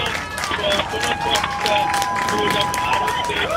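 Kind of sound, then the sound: crowd, crowd cheering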